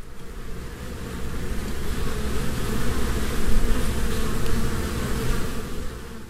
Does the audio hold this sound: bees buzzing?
yes